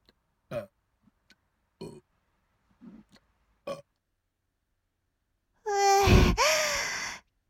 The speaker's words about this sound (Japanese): ゲップ止まんない。また出る。いやー、三連発とかさすがに恥ずかしいよ。